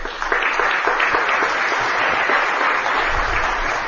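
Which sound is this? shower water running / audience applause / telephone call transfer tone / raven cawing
audience applause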